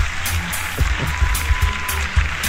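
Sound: applause sound effect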